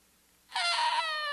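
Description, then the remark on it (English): A voice imitates a child screaming as a piece of broken glass is taken from it: one sudden, loud, high-pitched shriek held for just under a second, following a brief quiet moment, with no other talking. “And you try to take that piece of broken glass from the child. What happens? They'll scream.”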